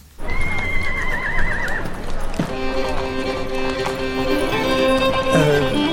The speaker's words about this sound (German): Da drüben auf der Koppel. Sind das die Pferde? Das sind die Pferde, ganz genau.